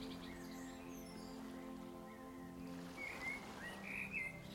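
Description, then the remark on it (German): Soft, distant birds twitter in the trees with brief whistled calls over a steady hum of ambience, growing slightly more noticeable toward the end. No one speaks. “In der Ferne zwitschern die Vögel leise in den Bäumen und das Rauschen der Blätter im Wind beruhigt dich.”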